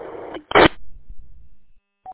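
A company office telephone rings: two short, loud electronic bursts close together, a lull with low rumbling, then a brief clear beep at the end. No one speaks.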